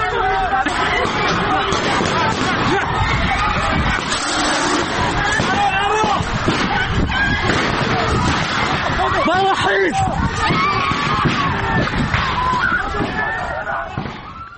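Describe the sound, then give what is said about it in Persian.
A loud, chaotic crowd commotion as security special forces attack a gathering of medical students inside Kurdistan University of Medical Sciences on 7 Aban, firing tear gas and shooting; many voices shout and clamor at once, broken by a few sharp bangs, continuing steadily before easing slightly at the end. “اما ماموران امنیتی به تجمع دانشجویان علوم پزشکی کردستان حمله کردند، همینطور گاز اشکاور به سوی اونا شلیک کردند، تیراندازی هم کردند.”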